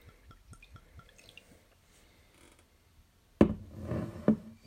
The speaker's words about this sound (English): I'm going to pour a little bit into this glass. Just a little sip.